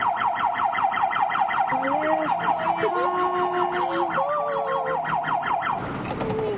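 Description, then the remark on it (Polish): A fire engine siren wails in a fast, rapid yelp, loud, with steady horn-like tones sounding beneath it before cutting off near the end. “Jakie sygnały?”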